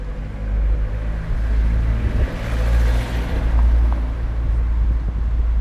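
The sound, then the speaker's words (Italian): Steady traffic rumble as cars pass quickly along Viale Francini in Lugano on a bright autumn afternoon, with a vehicle swelling louder as it rushes past midway, over a constant low roar and some wind-like hiss. No one speaks. “In Viale Francini le auto scorrono veloci, un pomeriggio luminoso d'autunno a Lugano.”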